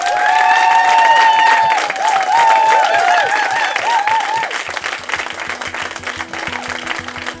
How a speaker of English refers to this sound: So a huge thank you to all of you for coming and being with us, the Poetry Exchange here at Latitude, and a huge round of applause and a massive thank you to our two fabulous guests,